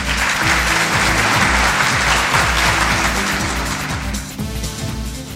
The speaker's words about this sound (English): So, ladies and gentlemen, let's give a round of applause to welcome